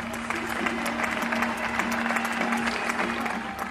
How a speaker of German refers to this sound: Während dieser Zeit öffneten die Spanier jeden Abend um 20 Uhr ihre Fenster. Sie klatschten Beifall für die Beschäftigten im Gesundheitssystem und sich selbst auch ein bisschen Mut zu.